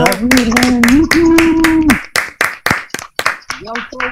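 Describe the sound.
Audience clapping for the winner of a game, brisk and steady, with a sustained voice calling out over the first half; the applause then thins into a handful of sharper, slower claps before tapering off.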